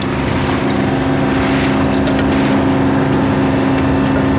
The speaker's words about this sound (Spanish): Las olas rompen con furia contra el blindaje de los carenados, levantando espuma que cae sobre los soldados.